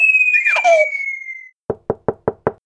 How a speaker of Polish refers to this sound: Idę! Kto tam? Kto tam puka?